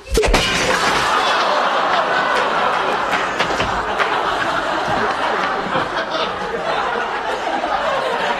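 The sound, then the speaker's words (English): A loud crash of shattering glass as a duck crashes through it opens, followed by several seconds of clattering, tinkling shards and debris, with what sounds like an audience laughing underneath. “This would be quacker through the glass.”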